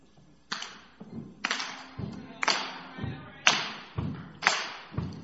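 A steady, old-school stomp-clap rhythm played to start off a song, with the audience invited to join in: a heavy foot stomp followed by a sharp hand clap, repeating about once per second, fairly loud, with no voices.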